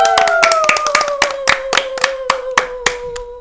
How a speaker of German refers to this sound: Beuge dich unter die göttliche Überlegenheit, sagte er zu Pan, und alle Zuhörer zollten seiner Entscheidung Beifall.